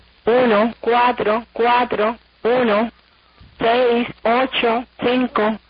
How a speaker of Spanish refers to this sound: Cuba se caracteriza por tener otras emisoras de números